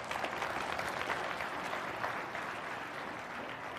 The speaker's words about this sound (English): Would somebody give God a clap offering today?